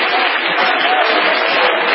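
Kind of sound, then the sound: crowd, audience hand clapping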